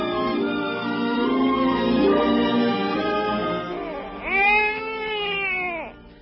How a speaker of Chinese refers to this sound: 我还没有到家就听见婴儿的哭声，哎，一定会被人听见的。快把他带到卧房去，关上门呐。